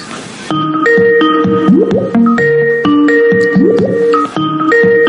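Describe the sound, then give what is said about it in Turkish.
A phone rings for an incoming group voice call with a bright electronic melody of stepped tones, the tune repeating about twice, loud, with no voices over it. “Senin telefon şey çalıyor.”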